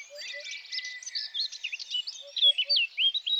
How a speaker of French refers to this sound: Écoutez-moi ça. Il y a de la vie dans cette haie. Ça gazouille de partout. Tiens, regardez autour de vous. Ça, c'est de la haie traditionnelle du Limousin. Composée essentiellement d'essences sauvages du coin.